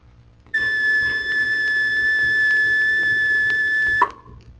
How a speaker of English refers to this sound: Warning of a plane crash by a carrier is sounded by the crash alarm.